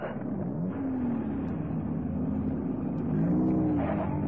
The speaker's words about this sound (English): And there goes Pascal's car now, Captain.